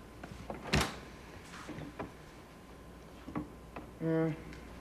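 A closet door gives a short, tonal creak near the end, following a sharp knock and a few scattered clicks and bumps amid otherwise quiet surroundings.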